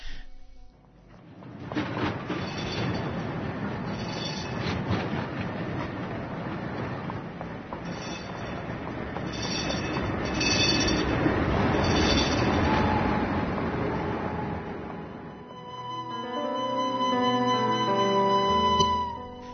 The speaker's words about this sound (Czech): Apsolutno, apsolutno, samo što je moj tramvaj kretao sa stanice, pa cin, cin da neko ne istrči, a ovo je neki koji već putuje, pa onda mu je neko na putu.